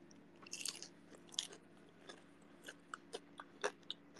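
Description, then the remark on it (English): Crunchy bites into burnt, crispy food: a couple of sharp crackling crunches followed by several softer chewing crunches at an irregular pace, with no talking. “Okay, it's definitely burnt. But it tastes good. When you hear the crunch.”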